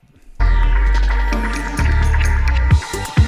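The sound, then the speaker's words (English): A loud reversed echo and delay effect, used in the buildup to a song's final chorus: a dense, droning tonal wash swells in abruptly and sustains, with a few thumping hits near the end. No voices. “I've already done this echo and delay, don't need it again, we've heard it. But to change it up, as I'm coming back into the final chorus buildup, say, I'll reverse it.”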